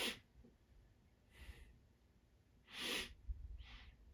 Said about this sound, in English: sorry, I feel like I'm trying to not sneeze here, so.